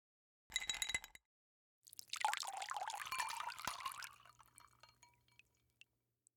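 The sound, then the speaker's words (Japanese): A short clatter, then strong liquor, a souvenir gift, is poured over ice into a glass for a couple of seconds, clear, trailing off into a few soft drips. No voices. “このお酒、ロックで飲むのがいいんだって。”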